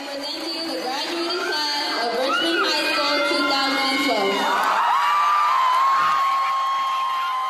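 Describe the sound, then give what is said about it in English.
A large crowd cheers and shouts at a Richmond High School graduation at the Richmond Civic Center, a dense, steady roar of overlapping voices with high whoops and yells rising above it throughout. “As the Richmond Civic Center erupts with emotion, there's a familiar feeling of accomplishment in the air.”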